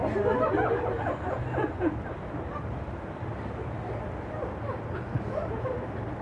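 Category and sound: animal, dogs barking and whimpering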